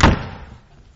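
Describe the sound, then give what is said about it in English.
A single loud door slam with a sharp, heavy bang up front and a boomy tail that fades out over about half a second. No one speaks. “Did it not say she closed the door on him?”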